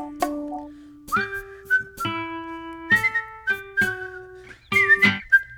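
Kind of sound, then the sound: human body sound, loud human whistling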